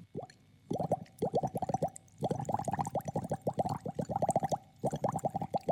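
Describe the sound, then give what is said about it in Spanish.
Bubbling gurgles from blowing gently through a straw into a glass of water to imitate a stream, coming in rapid bursts of small plops with brief pauses between, fairly clear, no voices. “Usás un vaso con agua y con una pajita soplando suavemente.”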